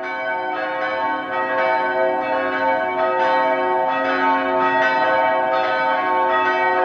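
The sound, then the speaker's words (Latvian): Dom Cathedral church bells ring in Dom Square about ten minutes before eight in the morning, continuously with rich, layered overlapping tones, a full peal echoing off the surrounding building walls at a fairly loud level with no talking. “Man reti nākas būt doma laukumā apmēram 10 minūtes pirms astoņiem, taču tieši tas ir laiks, kad ik rītu var dzirdēt skanam doma baznīcas zvanus.”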